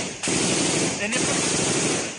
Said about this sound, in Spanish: Hay una fuerte balacera.